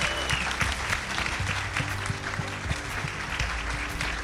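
A crowd claps steadily in sustained applause, a dense, even patter of many hands for several seconds with no voices standing out.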